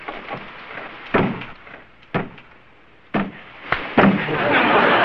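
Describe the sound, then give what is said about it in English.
A stuck door, locked from the outside, is forcefully rattled and yanked as someone tries to open it, with several sharp wooden bangs and thumps at irregular intervals, over a muffled background of voices and steamy hiss. “get the door open. I can't, Chief. It's stuck. Let me try.”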